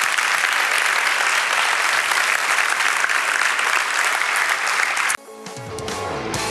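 audience applauding

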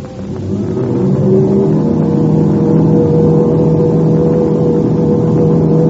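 airplane engines revving up

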